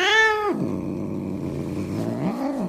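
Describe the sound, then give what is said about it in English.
A cat named Fluffy, in a viral cat video, lets out one loud meow that slides downward, then drops into a long, low, rumbling growl that continues to the end with no other sounds. “This cat is fluffy and crazy.”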